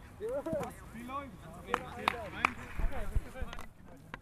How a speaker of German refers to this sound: Zwei Mannschaften à 7 Spieler rennen einer bunten Scheibe hinterher, wie hier auf dem Rasenplatz der Willy-Graf-Schule in Saarbrücken. Das Feld ist so lang wie ein Fußballfeld, allerdings nicht ganz so breit.